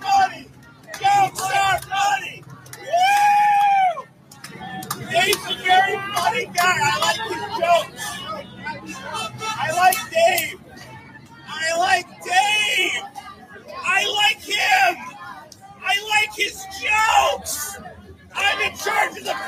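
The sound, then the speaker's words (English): A protest crowd shouts the chant "Black Lives Matter" in loud, repeated bursts, with overlapping yells and babble filling the gaps between phrases, sustained for the whole stretch. “Why are they screaming Black Lives Matter?”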